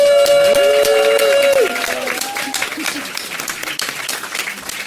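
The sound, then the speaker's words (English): A crowd applauds BioWare Montreal with dense, steady clapping while a loud, sustained whoop rings out over it for the first couple of seconds, then the clapping continues a little softer. “Let's get a gigantic round of applause for BioWare Montreal.”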